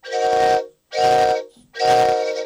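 Three loud, sustained train whistle blasts in a row, each about half a second long with short gaps between, rich and harmonic like a steam whistle, with no talking.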